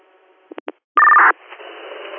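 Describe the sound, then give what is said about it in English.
Over a fire dispatch radio channel, three quick beeps are followed by a loud, steady two-pitch paging alert tone that cuts off sharply, leaving a hissing, crackling open channel. “Go ahead, mic tones one more time, and then we probably should be good.”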